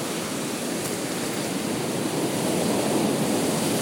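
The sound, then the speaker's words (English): A steady, hissing wash of sea water with gentle, unbroken waves, swelling slightly louder toward the end. No voices, just a continuous rushing texture. “You're going to do it with the waves not breaking, otherwise you can't hear it.”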